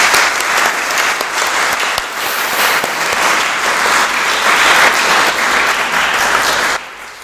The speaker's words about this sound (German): Es gibt nachher ja nach dem Segen und dem Nachspiel noch einen Empfang da hinten, dass Sie dann in Ruhe die Tafel in Augenschein nehmen, die Vitrine, und jetzt einen herzlichen Applaus spenden für alle, die sich da verdient gemacht haben.